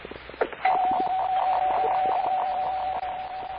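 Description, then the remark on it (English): A doorbell at house number 105 rings with one steady, unbroken electric tone at a moderate pitch, buzzing for about three seconds over a faint, grainy background hiss. “Ring the bell, Jerry.”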